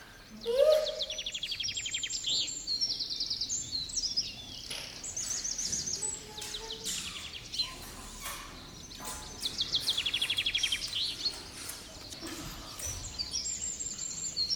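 Several birds sing and chirp together in bright, rapid trills and whistles, layered and continuous over a soft outdoor background, with no talking.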